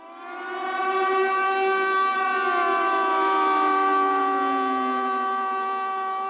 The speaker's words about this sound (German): Sirenengeheul, Luftalarm, für die Menschen in Tel Aviv leider fast schon traurige Gewohnheit. Immer wieder wird die Stadt mit Raketen beschossen.